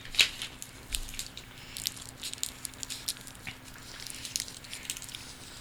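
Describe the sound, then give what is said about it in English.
Someone eating a Halls cough drop: soft, irregular mouth clicks, wet smacks and small crunches of hard candy, one sharper click at the start, all fairly quiet with no talking. “She's eating Halls.”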